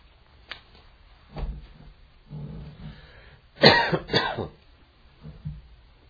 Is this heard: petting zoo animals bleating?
no